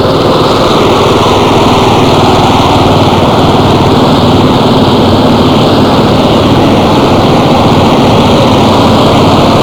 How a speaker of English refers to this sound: Line of police coming by right now on motorcycles.